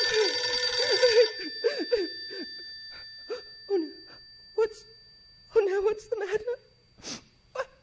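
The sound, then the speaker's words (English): A telephone bell rings loudly and steadily for about a second, its tone lingering as it fades, followed by short, scattered vocal sounds from a voice. “Let it ring. Let it go on ringing.”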